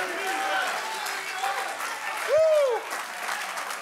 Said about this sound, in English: Somebody in here, clap your hands unto the Lord.